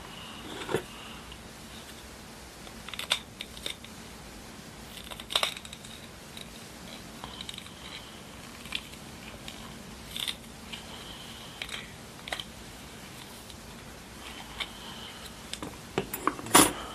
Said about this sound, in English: Oh. I'll get it. The scissors.